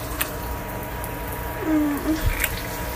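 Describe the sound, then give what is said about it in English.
Running shower water makes a steady, even hiss throughout, with a brief low tonal whine rising and fading about halfway through and a few faint clicks. No one speaks. “I know they can barely hear over the shower, but I don't want to get caught.”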